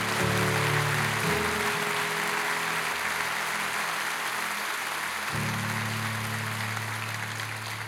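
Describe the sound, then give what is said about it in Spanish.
An audience applauds the Lord steadily throughout, a dense wash of clapping with sustained organ or keyboard chords swelling underneath, fading briefly in the middle before returning. “¿Cuánto le pueden dar un aplauso al Señor por eso?”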